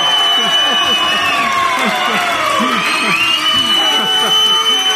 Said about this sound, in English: Think about it on Yahshua's memorial and the little crowd here and all the racket we're making.